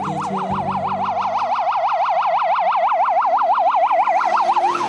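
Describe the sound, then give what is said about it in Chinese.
An ambulance siren, from one of three ambulances called to a casino to take a man to hospital, yelps loudly, its tone rising and falling rapidly and steadily without a break, with a faint low rumble of traffic at the very start. “赌场看我当时很危险，就给急救中心打电话，来了3辆救护车把我送到了医院。”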